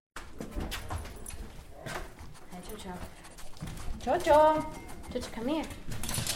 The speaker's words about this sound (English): home in Carson City, you're instantly welcomed by her dog, Chocho.